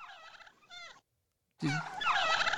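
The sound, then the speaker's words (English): A turkey gobbling sound effect in two bursts: a shorter warbling call, a brief silence, then a louder, denser gobbling chorus, with no talking. “It's turkeys.”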